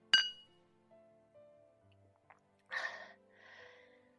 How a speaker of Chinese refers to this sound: 来，咱们干杯，敬我们未来的美好生活。